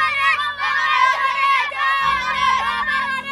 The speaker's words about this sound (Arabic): إذن الأطفال يلعبون بحطام هذه الطائرة التي كانت تقتلهم طيلة 8 أعوام، يلعبون بهذه الطائرة وحطامها ويستمتعون باللعب على حطام هذه الطائرة.